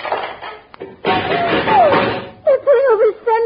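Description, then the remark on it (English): Two people rip the doors off a car named Wilbur as they strip it, a harsh, loud burst of metallic tearing and clattering lasting over a second, and then voices are heard. “There go the doors.”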